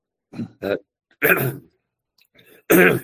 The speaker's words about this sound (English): Pardon me, I don't have a cough button. I'm sorry, folks.